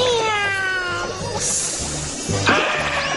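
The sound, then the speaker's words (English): A voice imitates a big, drawn-out cat meow, a loud wavering yowl that slides downward over about a second, followed by some rustling, breathy noise. “He pretended to be a giant kitty cat, and he scared the grumpy guppy away.”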